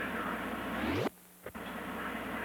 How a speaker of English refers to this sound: Helicopter out there, could we? Oh, that's awful noisy.